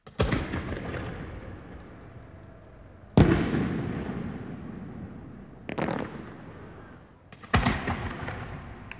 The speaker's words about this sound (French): Dans les grandes villes comme Buenos Aires, Cordoba et Rosario, c'est une tradition que des feux d'artifice et même des ballons soient lancés le soir de Noël.